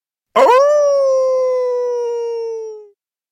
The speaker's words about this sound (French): On m'appelle méchant loup. On ne m'aime pas du tout. Et je hurle comme un fou.